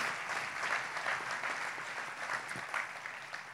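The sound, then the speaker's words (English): A crowd claps steadily, a dense wash of many hands beating at once, fairly soft and even in volume throughout with no voices over it. “Let's clap our hands and thank God for the good work they're doing.”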